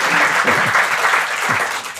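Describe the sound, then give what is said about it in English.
An audience applauds in a dense, steady wash of many hands clapping for about two seconds, fairly loud and even throughout, with a faint voice briefly audible underneath. “The applause came about 30 years later, anyway.”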